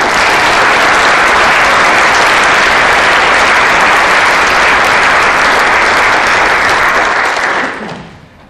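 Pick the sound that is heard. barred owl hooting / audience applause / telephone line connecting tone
audience applause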